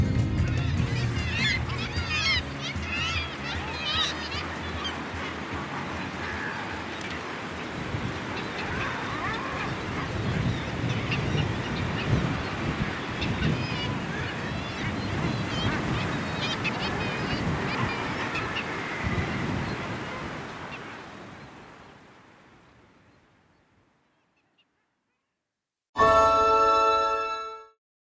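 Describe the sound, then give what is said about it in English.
A seabird colony on Handa island, on the North Coast 500: a dense, steady chorus of overlapping harsh, honking and cackling calls that carries on for about twenty seconds before fading away into silence. “Talking of Handa, let's just go out on the sound of Handa again from all of the team at BBC Aberdeen.”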